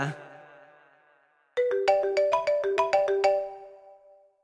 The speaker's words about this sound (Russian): О, опять звонит номер.